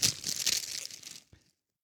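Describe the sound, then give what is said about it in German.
Crisp crinkling of a wrapped book in a plastic bag, wrapped again in an envelope with dots, a dense rustle for about a second followed by one brief crackle before it stops. “Es ist ein Buch offensichtlich in einer Tüte.”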